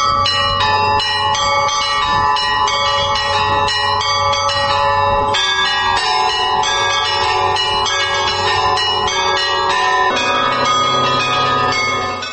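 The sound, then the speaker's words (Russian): A loud peal from a mixed set of old and new church bells, played by a bell-ringer, rings continuously, many bells of different pitches struck in quick overlapping succession so their tones blend into a dense, shimmering clangor with no voices. “У меня же тут как бы набор, какие-то были колокола, какие-то старые, какие-то новые, какие-то прибавились, то есть разнобой.”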